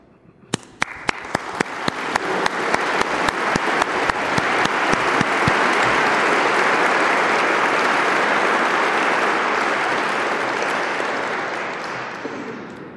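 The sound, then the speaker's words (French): Audience applause at an award ceremony for prize laureates who stand up, starting with a few scattered claps, quickly swelling into sustained dense clapping from a large crowd, then slowly thinning out toward the end. No voices are heard. “Je demande à ceux des lauréats qui ont pu être présents aujourd'hui de bien vouloir se lever et je vous demande de les applaudir.”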